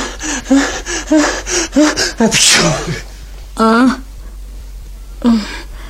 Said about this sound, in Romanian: Îmi vine să strănut. Țineți-vă pentru Dumnezeu. O să speriați pe majestatea sa. Dar ce să fac? Nu mai pot.